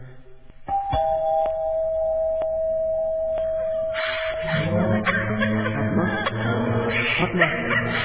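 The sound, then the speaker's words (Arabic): A doorbell rings once with a steady, ringing electronic tone that lingers for a few seconds, then gives way to busy background noise and faint voices. “عندك الجرس.”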